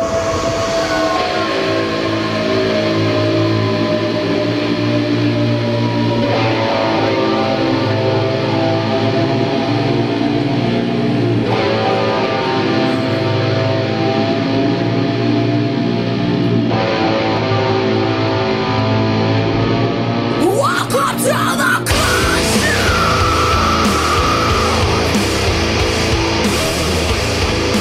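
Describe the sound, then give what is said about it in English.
A woman sings over loud, dense rock music with heavy, sustained guitar tones, continuing steadily before the track shifts abruptly into a brighter, noisier section near the end. “That's a woman singing.”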